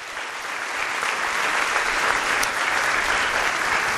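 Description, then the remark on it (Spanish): An audience applauds the Lord, a dense, steady wash of many hands clapping that swells slightly and holds for several seconds, with no voices standing out. “Un aplauso al Señor, ¿eh?”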